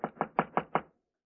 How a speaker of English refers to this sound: Compartment D. At last, we'll be alone together. I'll knock on the door.